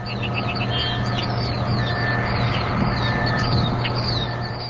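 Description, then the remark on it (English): A steady low electrical hum and industrial machinery drone continuously from the Kewaunee nuclear plant on Lake Michigan, Wisconsin, heard from about a quarter mile away, while many birds chirp and call overhead, their tweets scattered throughout. No one speaks. “Stand about a quarter mile from the plant, and the most you can hear is a mix of machinery, electrical hum, and birds.”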